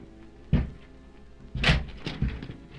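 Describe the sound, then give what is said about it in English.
A locked door to the room of Émile Zola and his wife is broken open by servants: a heavy thud, a pause, then a louder crashing impact followed by a couple of smaller knocks and rattles, with no talking. “we must break open that door.”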